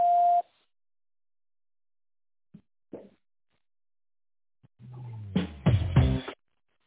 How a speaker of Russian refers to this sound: Пожалуйста, после звукового сигнала в тоновом режиме наберите добавочный номер абонента или дождитесь ответа секретаря.